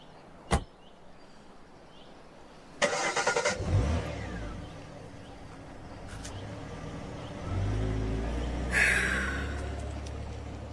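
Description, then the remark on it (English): A sharp thud, then a car engine cranks and catches, idling low before revving harder as the vehicle pulls off, its rumble swelling steadily with no voices. “Just getting in the car and disappearing for hours on end.”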